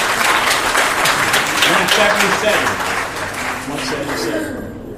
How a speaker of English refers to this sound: We can give him a hand clap.